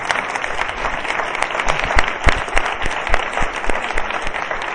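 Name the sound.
audience applauding teachers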